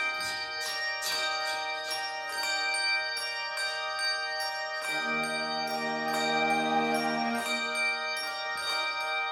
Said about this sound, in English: Here the bells are ringing, they're singing, Christ is risen from the dead.